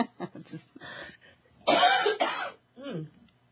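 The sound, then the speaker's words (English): A loud cough erupts in a couple of harsh bursts, set between brief murmured voice sounds and a short throaty vocal noise at the end. “I'm going to cough again.”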